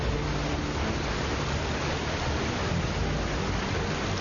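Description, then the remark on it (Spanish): Rushing, turbulent water of the river in the Anterior Rhine valley of the Swiss Alps roars in a steady, dense wash of noise, loud, with no pauses or voices throughout. “Mucha gente disfruta de estas turbulentas aguas, no solo los entusiastas de los deportes acuáticos.”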